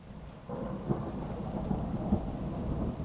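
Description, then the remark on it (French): Steady rain hisses throughout, layered with a deep, rolling thunder rumble that swells after the first half-second and stays heavy, with no voices. “on dirait qu'il ne pleut plus.”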